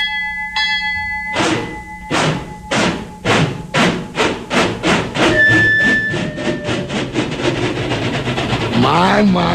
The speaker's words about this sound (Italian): My. Listen to that rhythm train, boy. Boy, I bet all them hobos are all set under them rides.